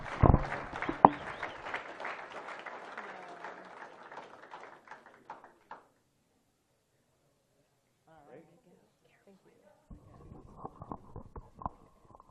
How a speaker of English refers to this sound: Please give a big celebratory round of applause and congratulations